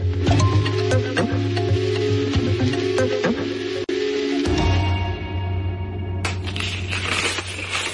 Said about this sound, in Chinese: 今天拆开这封信，他的字迹感觉上有些历练，应该是上了些年纪的。